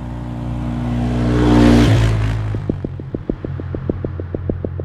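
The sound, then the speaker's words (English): The engine of an all-terrain vehicle, taken by officers heading to an aircraft crash on a mountain, revs up to a loud roar and then drops into a steady, rhythmic putter as it idles, with no one speaking. “So my partners and I, we meet at our office and we park our patrol cars and we switch out for our all-terrain vehicles.”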